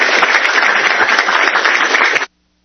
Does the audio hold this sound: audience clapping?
yes